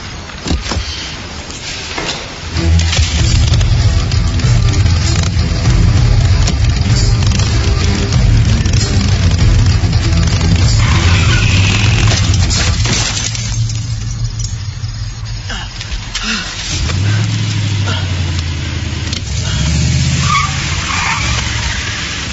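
A car roars up with its tires skidding and screeching across the pavement, the engine rumbling loudly throughout, easing briefly before revving up again. No one speaks.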